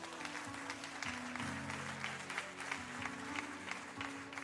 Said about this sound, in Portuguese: Vamos aplaudir ao Senhor pelo nosso presidente.